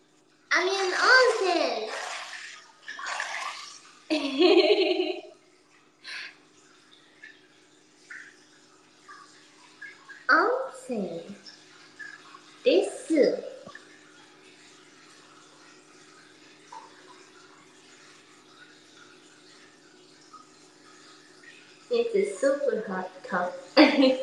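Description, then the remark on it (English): Soft sloshing and trickling of really warm water, as in a bath, runs steadily at a low level while a child's voice speaks in short bursts over it. “Why do I hear water?”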